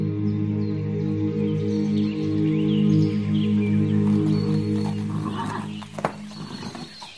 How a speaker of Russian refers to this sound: Нифонт подогнал коня под крепкий сук, влез на седло